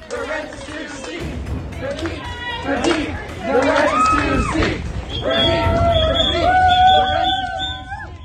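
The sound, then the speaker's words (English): A loud crowd of student protesters just outside an event chants and claps in a dense, echoing din, and in the second half shrill, sustained whistle blasts cut through the noise. “These students remain on stage for nearly 15 minutes before continuing to chant, clap, and blow whistles from just outside the event.”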